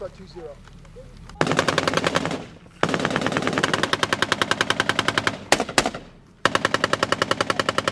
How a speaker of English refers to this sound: Like villains in a video game, Taliban militants in black tunics pop up on rooftops, from behind mud walls or in trenches. They fire at the patrol with AK-47s and rocket-propelled grenades, then disappear.